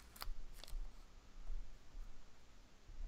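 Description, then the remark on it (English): Soft crackling of a small plastic adhesive sticker being peeled off the speaker of a Wi-Fi device, with two or three brief sharp snaps near the start, then quiet handling noise. “There's a little piece of plastic adhesive stuck over the speaker.”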